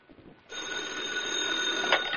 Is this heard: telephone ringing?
yes